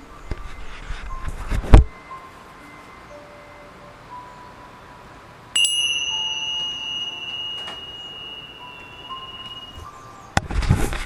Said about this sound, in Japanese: はい、じゃあね、ちょっとこの今のね鐘の音を聞きながらゴールドの光に包まれてるのをイメージしてください